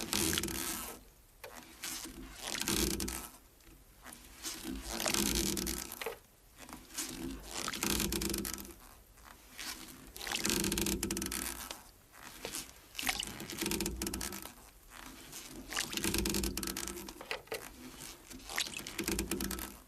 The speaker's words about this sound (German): Das sind Aufnahmen von Ruderbooten